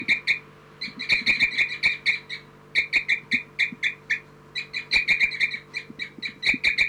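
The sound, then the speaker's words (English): Bird calls repeat in quick bursts near a nest, just after a bird was flushed off it: a steady run of bright, high, chirping notes with brief pauses between groups, over a low, faint background hum. “I've just flushed 3-3 off the nest. And 4-3 and her are tubing now.”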